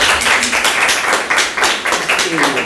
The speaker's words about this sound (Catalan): Llavors, res, sense més preàmbul, aplaudiment per ell, sisplau.